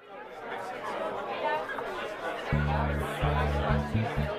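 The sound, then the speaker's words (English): Party guests at an early 1970s London soiree chatter in a steady, overlapping babble of many voices. Partway through, low sustained musical tones start playing beneath the crowd noise. “Never mind how you and I got to this early 70s London soiree.”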